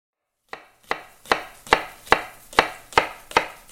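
A knife chops vegetables into small square pieces on a cutting board in a client's home kitchen, eight sharp, evenly spaced strikes, crisp, with no voices.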